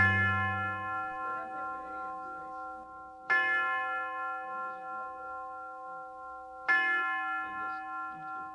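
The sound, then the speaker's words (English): The University of Detroit tower chime tolls three times at slow, even intervals, each strike ringing out with rich, sustained harmonic overtones that linger and overlap. No voices. “The University Tower chime rings in another session of Ask the Professor”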